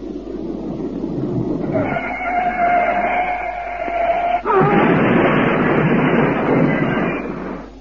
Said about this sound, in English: A collection of film critics were driven to the theater in a lorry, the brakes of which were personally tested for them by Sir Alexander Corder. Listen to the lorry's arrival.